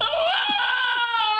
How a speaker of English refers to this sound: No. That is a window cleaner falling from the 13th floor.